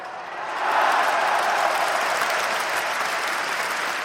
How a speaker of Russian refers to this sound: Ответом ему был шквал аплодисментов и крики восторга.